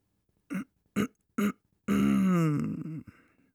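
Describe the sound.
A voice performs a theatrical throat clearing: three short, gruff bursts followed by one longer, drawn-out rumbling ahem that slides downward, fairly loud with no other sounds.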